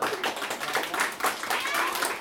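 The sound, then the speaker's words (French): A crowd applauds to thank the speakers, many hands clapping in a dense, crackling wash that stays fairly loud throughout, with a few faint voices mixed in. “Mais on peut les applaudir, on peut les remercier.”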